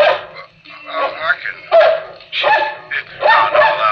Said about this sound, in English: That's all right, doggy. You bark as much as you want.